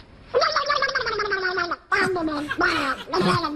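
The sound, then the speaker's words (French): Actress Isabelle Adjani makes a buzzy, raspy duck imitation on the TV show Platine 45: one long quavering quack, then a few shorter nasal quacks in quick succession, fairly loud with no other talk. “Isabelle Adjani qui fait le canard à la télé, vous l'aviez droguée ou quoi?”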